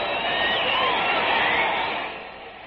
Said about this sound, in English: What a day this is for Jim Bunning. Listen to that crowd.